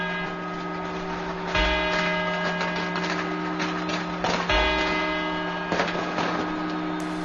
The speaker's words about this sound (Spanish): Vamos a recordar este instante. Notarán ustedes que el sonido es totalmente diferente, los cuartos a las campanadas.